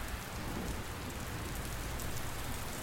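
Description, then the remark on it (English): Steady, heavy rain from a storm pours down with a dense, constant hiss and patter, loud throughout with no voices. “It's just the rain's still coming down.”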